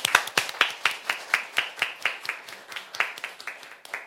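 An audience at a Saturday humanities concert claps to welcome a guest band to the stage, in a steady, even rhythm of about four sharp claps per second, with softer scattered clapping filling the gaps. No one speaks over it.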